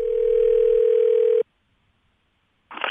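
A steady, loud telephone dial tone hums for about a second and a half as a call to a listener of the show Sound Opinions connects, then cuts off abruptly into near silence before a brief burst of line noise or a voice begins.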